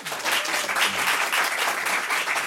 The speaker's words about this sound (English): God, the siren song of the trapper keeper. Nobody needs it, but you wanted one. Applaud if you had one.